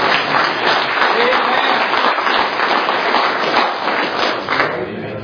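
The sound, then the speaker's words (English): A church audience applauds loudly and steadily to thank God for the message, dense clapping lasting several seconds before easing off slightly at the end, with a few voices murmuring underneath. “Can we thank God for the message?”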